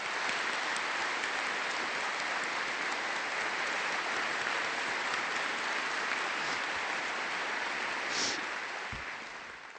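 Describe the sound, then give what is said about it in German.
Sustained applause from a large crowd at a papal audience, welcoming all the mothers present. It fills the whole stretch, a dense, steady clatter of many hands clapping at an even loudness before easing slightly at the very end. “Und an alle Mütter, die hier sind, die begrüßen wir jetzt mit einem Applaus.”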